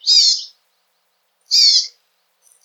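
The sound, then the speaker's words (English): Two short, buzzy contact calls from a Hawaiian honeycreeper, given by both sexes to keep track of each other, each about half a second long and spaced a second apart, clear in otherwise silent air, with a third call just starting at the end. “Both sexes do a short and distinctive call to keep track of each other that sounds a bit like gear.”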